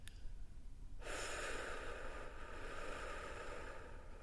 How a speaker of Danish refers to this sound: Og den nemmeste måde at gå i gang med det, det er faktisk at puste ud. Så nu skal du starte med at puste ud alt, hvad du har af luft.